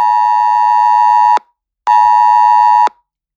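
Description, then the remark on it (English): A phone's Amber Alert emergency tone, announcing an 8 o'clock curfew and shelter in place, blares in two loud, sustained bursts, a harsh buzzing pitch with a brief gap between them and no voices. “Okay, I just got an Amber Alert. You all got Amber Alerts over here.”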